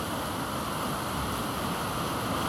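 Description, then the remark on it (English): A river crashes steadily through a narrow channel between overhanging rocks, a dense, continuous rush of churning water, with no voices and no breaks in the sound. “As the rocks overhang, the river as it crashes through creates caves and eddies underneath the water as it erodes away at the rock underneath.”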